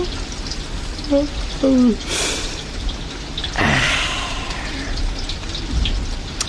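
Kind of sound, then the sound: nature, rain falling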